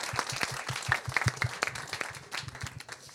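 An audience applauds with a steady patter of many hands clapping, dense and sustained for a few seconds at moderate loudness, with no talking over it.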